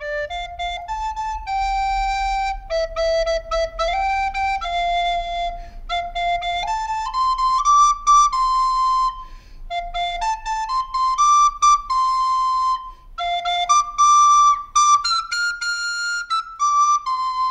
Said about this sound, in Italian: ci ha mandato una cosa. Sì, di flauto. Per i Machu Picchu, sentiamola.